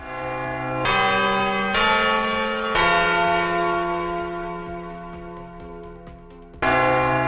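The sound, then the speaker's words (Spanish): The clock bell of the Puerta del Sol in Madrid chimes alone: three strikes in steady succession about a second apart, each ringing out with a rich, shimmering decay, then a fourth strike after a longer pause. “Muchas miradas están puestas en el reloj de la Puerta del Sol en Madrid”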